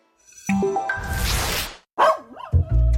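A dog barks and yips in a few loud bursts, with whiny rising and falling tones between them. No one speaks.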